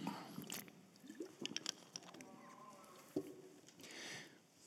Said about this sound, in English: Let me grab a sip of water here because I got a lot to say.